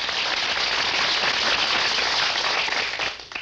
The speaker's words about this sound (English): I must confess that I signal for the applause because looking at it pretty dispassionately, when a guy gets on the air and says, good afternoon,